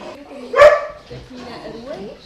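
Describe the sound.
A dog lets out a single sharp, loud bark, with people talking quietly before and after it. This happens inside a wooden hut on the edge of town, where participants arrive with their dogs for a dog course.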